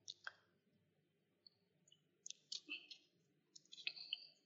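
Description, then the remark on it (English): Crisp papery riffles and clicks of a deck of tarot cards being shuffled for a reading, in three quick bursts separated by short pauses, with a low background hum and no speech. “Just shuffling the cards here.”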